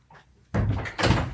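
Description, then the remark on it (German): A door is opened with two loud, broad thumps about half a second apart, the handle and latch rattling before the door swings open, to let in the dog Ayla, who was sitting outside whining. A quiet moment comes first, with no talking. “Ich glaube, wir müssen Eiler schnell reinlassen.”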